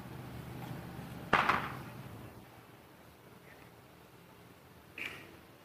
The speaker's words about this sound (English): Sound is funny this morning, as it tends to be in the fog. It sounds like these guys are hammering right next to me.